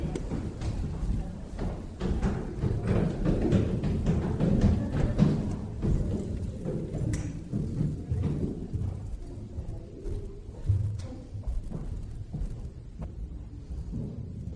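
Heavy footsteps thunder rapidly down and up wooden stairs, a steady barrage of booming thuds and low rumble that carries on throughout, fairly loud, with no one talking.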